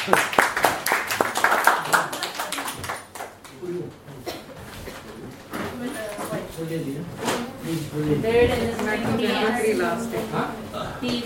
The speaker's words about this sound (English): Let's give a mighty clap to him.